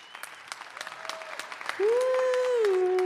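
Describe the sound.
An audience applauds with a dense patter of handclaps throughout, and about halfway through a sustained voice rises over the clapping, holding a steady, drawn-out tone to the end.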